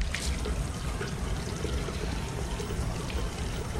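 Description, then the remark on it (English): Water runs steadily from a tap, splashing and trickling as a woman rinses her face in a washroom, a continuous wash of sound with small splashes throughout. “Casey rinses her face in the washroom.”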